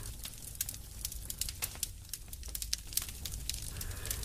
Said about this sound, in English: If the day is cold, a cracking fireplace will start.